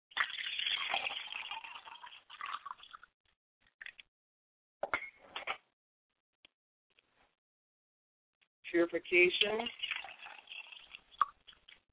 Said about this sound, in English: Ladies and gentlemen, if you would pardon me as I pour the water over my hand and clean my hands for the purification.